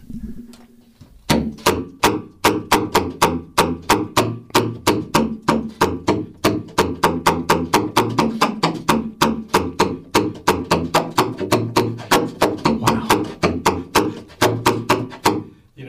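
A steady run of sharp, percussive slap-tongue pops, the tongue striking the reed hard against the mouthpiece instead of blowing, each a short, low, booming bass note, repeating quickly and loudly with no talking.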